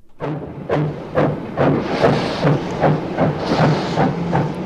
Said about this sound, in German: Der Verein Historische Seetalbahn hat Stand gebracht, dass diese alte Lok wieder dampft.